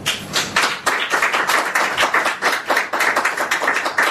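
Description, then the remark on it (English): An audience at a meeting breaks into steady applause for the speakers, many hands clapping in a dense, overlapping patter that stays fairly loud and even for about four seconds, with no voices over it. “Round of applause for our speakers.”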